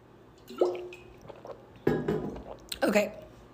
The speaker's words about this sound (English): Let me just get a drink of water.